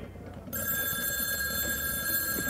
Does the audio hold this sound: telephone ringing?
yes